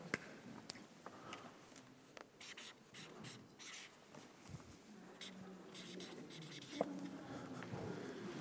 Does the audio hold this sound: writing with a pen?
yes